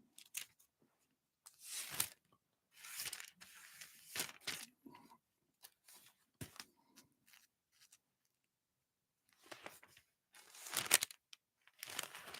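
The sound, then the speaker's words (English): Thin pages of a Bible being turned by hand to find 1 John 3, verse 2, a series of papery rustles and swishes in irregular bursts with short pauses between, and no one talking. “Sorry, I'm not turning the pages as fast as I should, not as young as I used to be.”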